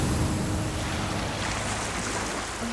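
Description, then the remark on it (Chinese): Atlantic Ocean waves crash onto rocks along the shore in a steady, loud roar of churning surf and spray, with no distinct pauses between breakers and no voices. “一秒钟，大西洋岸边的海浪冲上了礁石。”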